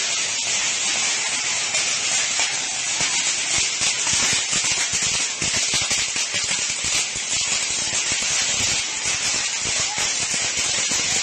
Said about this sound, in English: So if you want to know what it sounds like when a fireworks aisle is set on fire at a Phoenix Walmart, it sounds a little something like this.